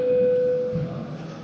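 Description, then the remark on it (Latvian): A voting-mode signal in the Latvian parliament (Saeima), as a vote on proposal 168 begins: one steady, mid-pitched electronic tone holds for under a second, then stops abruptly, leaving a low murmur of room noise. “Lūdzu balsošanas režīmu.”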